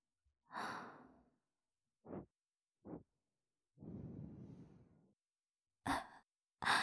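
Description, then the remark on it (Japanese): Soft, airy breaths blown into the ear: a long exhale, two short puffs, another drawn-out gentle blow, then two brief breathy gusts. No speech, just quiet breath noise. “息吹きかけられると やっぱり反応しちゃうわよね。”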